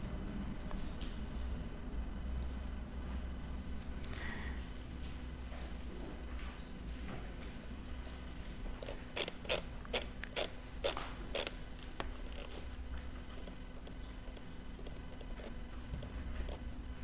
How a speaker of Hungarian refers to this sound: talán az volt a pillanat, lapozok.